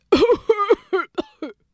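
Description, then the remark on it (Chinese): A voice imitates the heavy coughing of Mr. November, a character with a bad cold: a string of about five loud, hoarse hacking bursts, the first ones longer and the last few shorter and sharper. “哇，他咳嗽咳得好厉害哦，他是十一月。”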